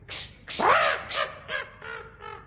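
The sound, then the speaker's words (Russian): A crow sitting on a hat caws about six times in quick succession, harsh and raspy, the early calls loudest and the later ones growing fainter and shorter. No one speaks. “Ты не можешь согнать с моей шляпы вот эту нахалку ворону?”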